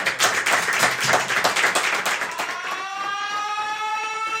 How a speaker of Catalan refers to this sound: Doncs Anne Perry, l'escriptora i també assassina, que entra al búnquer. Fort aplaudiment per ella! Bravo!